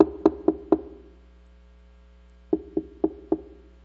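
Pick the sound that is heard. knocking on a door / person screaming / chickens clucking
knocking on a door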